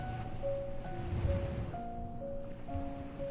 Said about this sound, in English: The water is close enough for you to hear every wave as it rises and falls. From where you are, you can see the slow motion of the tide, the soft curve of the beach, and the open sky above.